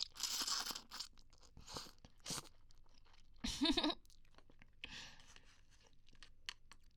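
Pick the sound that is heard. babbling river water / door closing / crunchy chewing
crunchy chewing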